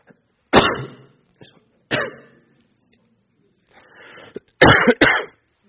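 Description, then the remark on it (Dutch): Several harsh coughs and throat clearing come in bursts from a person with a bad cold this week: two strong coughs early, a softer rasp and breathy clearing in the middle, then a loud double cough at the end, with no speech. “Sorry, ik moet zo auto even hoesten, van de week flink verkouden.”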